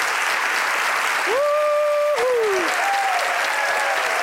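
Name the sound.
audience applause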